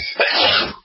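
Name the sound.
sneeze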